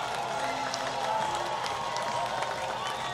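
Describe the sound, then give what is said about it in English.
A large baseball stadium crowd, the largest of the series, roars and cheers in a steady, dense wash of noise at an even loudness, with scattered shouts and claps, after Cesar Quintas's home run gives the Giants a 6-4 lead over Visalia in the bottom of the seventh inning. “Largest crowd of the series, and they made their impact here in the bottom of the seventh.”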